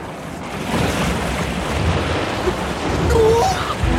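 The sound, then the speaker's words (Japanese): Heavy ocean surf surges continuously, a broad rushing roar of churning water that swells louder toward the end, with a few faint tonal chirps over it. “あんなに大きな。 そんな、今まで何も静かだったのに。”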